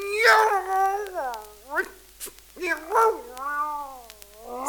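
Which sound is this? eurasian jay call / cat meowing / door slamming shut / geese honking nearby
cat meowing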